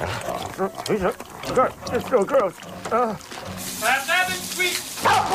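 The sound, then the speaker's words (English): A large dog wearing a priest's collar lets out a run of eager barks and throaty growling yelps as it jumps up and knocks a man flat on his back, then wet, breathy slobbering and panting noises as it slobbers at his face and keeps vocalizing. “The dog jumps up and knocks Ben flat on his back, then slobbers amiably at his face.”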